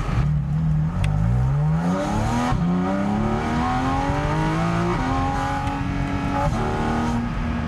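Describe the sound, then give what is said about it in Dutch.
A sports car engine roars hard from a standstill using launch control, its harmonic whine climbing steadily in pitch through several quick gear shifts, loud and continuous throughout with no voices. “Maar je merkt dat met dat schakelen, als je launch control doet, hij dan even zeg maar, dat momentum van die motor meepakt.”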